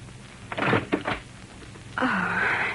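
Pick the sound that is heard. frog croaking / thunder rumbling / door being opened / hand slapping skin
door being opened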